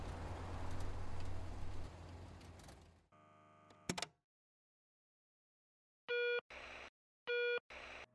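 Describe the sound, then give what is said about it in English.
A rumbling noise cuts off into a brief telephone dial tone, then after a pause come two short pairs of electronic keypad beeps as a phone call is made, fairly loud, with no talking. “Make your phone call”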